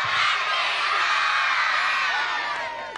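A crowd of schoolchildren, supporters of the Athenry camogie team, lets out one big, loud, sustained cheer with high-pitched shouts and whoops, holding steady for about three seconds before tapering slightly at the end.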